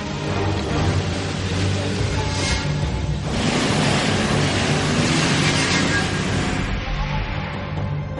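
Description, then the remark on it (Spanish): Rain that has just begun falls steadily in a dense, continuous hiss, fairly loud, on paths already flooded with puddles near an archaeological dig site, with a faint low rumble underneath and no distinct voices. “Acaba de empezar a llover, pero los caminos ya están encharcados.”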